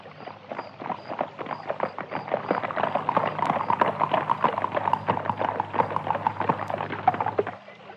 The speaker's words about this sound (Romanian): Când tocmai da să plece, fata zări gonind năvalnic dintr-un luminiș o caleașcă de poveste.